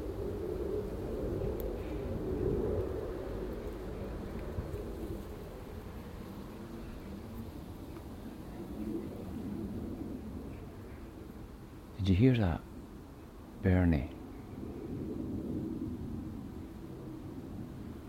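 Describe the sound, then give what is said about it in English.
A low, steady rumble of an airplane that does not fly overhead but suddenly banks off to the north, fairly faint in the background, with a brief spoken question breaking in near the end. “Did you hear how that airplane didn't fly overhead but suddenly shot off north?”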